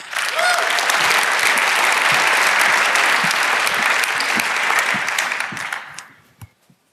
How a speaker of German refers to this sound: Einen Applaus.